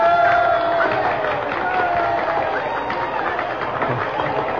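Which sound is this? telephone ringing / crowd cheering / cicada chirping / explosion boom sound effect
crowd cheering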